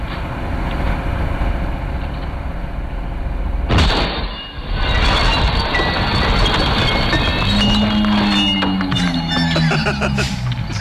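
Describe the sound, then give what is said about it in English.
Slowed-down glass tinkling: a sudden crash breaks through a steady rumble, then scattered high, stretched-out chimes and clinks trickle down alongside deep, drawn-out, falling tones. “I love the slow-mo because you can hear the tinkling of the glass.”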